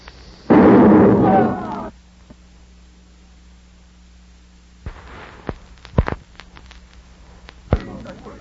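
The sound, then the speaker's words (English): A loud, roaring blast erupts near the start and rumbles for over a second as a cannon fires after its fuse is lit with a cigarette, followed by quiet and then a handful of scattered sharp pops and thuds. “How can I light the cannon fuse without a cigarette?”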